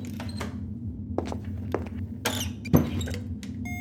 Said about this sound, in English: Now get out. And close the door.